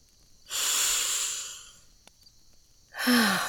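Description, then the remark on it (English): Two deep, drawn-out nasal inhales as someone sniffs another person's smell: a long, loud sniff, a pause, then a second shorter sniff ending with a slight voiced catch. No talking. “Maybe I should take a closer sniff.”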